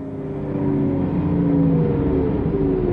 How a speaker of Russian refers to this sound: И вот появился автобус. «Ну, наконец!» — обрадовалась Йенни. «Заждались уже!» — проворчала Ханна. «На полчаса опоздал», — сказала мама.